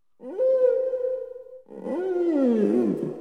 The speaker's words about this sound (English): Whales.